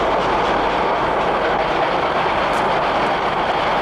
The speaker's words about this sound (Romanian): Foaie verde șosipică, trenule, mașină mică. Ce mică, frate, asta e locomotivă electrică.